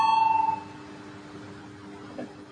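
A loud, steady electronic bell tone rings in a parliament to call a vote on a bill amending the Civil Law in its second reading, with a slightly pulsing quality for about half a second, then cuts off, leaving only faint ambience and a soft low hum.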